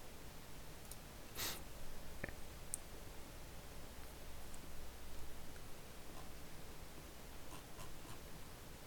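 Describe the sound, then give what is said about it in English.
Sparse computer keyboard typing while opening song lyrics: a handful of scattered, soft key clicks at irregular intervals over a steady background hiss, with no one speaking. “I'm just getting all the lyrics open, so give me a bit and listen to my keyboard.”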